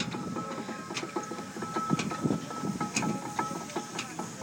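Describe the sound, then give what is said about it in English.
An engine idles with a steady, low mechanical rumble, broken by regular clattering knocks and a thin whine held above it. No one speaks. “So it's just idling.”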